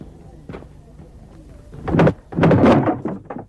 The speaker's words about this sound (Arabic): اذهبي وافتحي الباب.